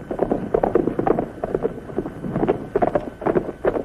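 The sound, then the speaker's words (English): Horse hooves of an approaching rider clip-clop in a steady, rapid rhythm, moderately loud, with faint wind noise underneath and no voices. “Somebody's coming.”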